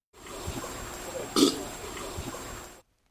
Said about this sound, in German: Ja, es war der Rülpser von einem Elefant. Da hätte man jetzt viel mehr erwartet.